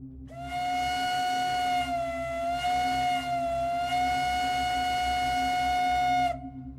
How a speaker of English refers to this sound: For instance, the following is the standard American train whistle from the 1840s and 50s. Now, I've turned all these samples down considerably to save a few eardrums, but if you're wearing headphones, a quick heads up.